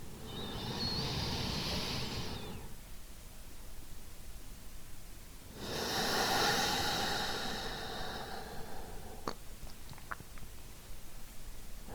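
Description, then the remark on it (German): Slow, deep, conscious breathing into the belly: two long, airy breaths a few seconds apart, each swelling and fading, followed by quiet with a few faint clicks. No one speaks. “Allein dieses bewusste Atmen bringt uns sofort in den Moment und raus aus dem bekannten Hustle-Modus und lässt uns mehr landen.”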